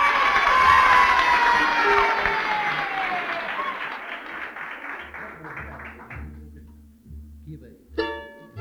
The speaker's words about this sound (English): Now, let's give him a hand.